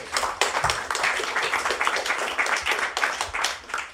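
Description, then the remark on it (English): A crowd applauds the Anyone's Child drug-reform campaign, many hands clapping in a dense, continuous patter with bright sharp claps throughout, sustained and fairly loud for the whole stretch without any voices. “Applause for Anyone's Child.”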